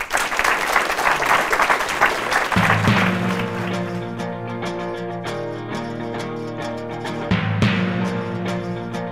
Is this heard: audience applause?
yes